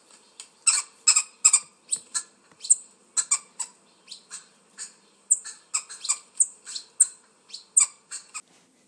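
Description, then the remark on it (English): Wood hoopoes calling together in a rapid, chattering chorus of harsh, squawking notes, male and female voices overlapping in bursts of repeated cackles with no talking; the lower call is the male's. “The low one that's going beep, beep, beep, that is the male.”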